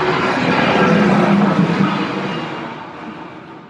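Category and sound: vehicle, train passing by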